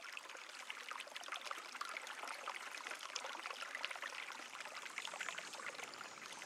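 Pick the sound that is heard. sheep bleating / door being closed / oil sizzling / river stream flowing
river stream flowing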